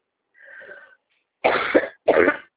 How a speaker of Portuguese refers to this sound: Mas eu tô Ó. tossindo, desculpa.